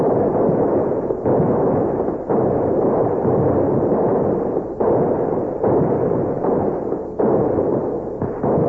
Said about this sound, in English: Now let's load up our rifles in the swivel guns. We're going to fire a salute that'll open every door in town and bring everybody running down to the river.